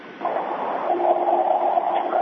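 A loud, steady roar of a train in motion fills the whole stretch, a dense rumbling drone with a faint humming tone running underneath and no voices.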